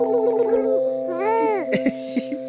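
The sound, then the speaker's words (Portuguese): A high, sing-song voice coos in exaggerated baby talk at a baby, its pitch swooping up and down through drawn-out syllables, with a steady tonal hum underneath. “E sabe aquela voz idiota que a gente faz quando a gente vê um bebê?”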